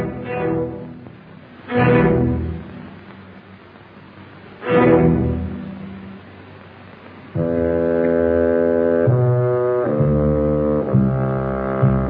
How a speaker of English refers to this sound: The deep tones of a bassoon give the image a mournful and ominous mood.